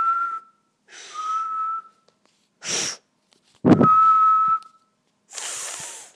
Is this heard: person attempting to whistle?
yes